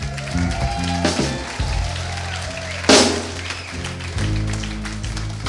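An audience claps in a steady, dense patter, with a sharper burst of clapping near the middle, over a sustained low droning tone.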